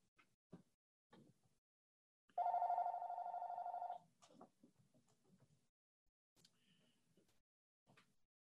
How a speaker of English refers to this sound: I think the bell from the phone is trying to tell us something.